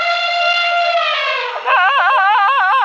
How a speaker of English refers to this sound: What was that sound? Oh, was that an elephant? You got it. That was my friend, …. She asked who I was talking with, and I told her about you.